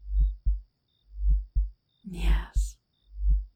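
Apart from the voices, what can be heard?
heartbeat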